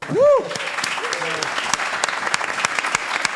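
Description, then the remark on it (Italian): Steady, dense applause from a crowd fills the whole stretch, with a quick rising-and-falling whoop at the start and faint cheering mixed into the clapping. “Beh, senza applauso era brutta, molto brutta.”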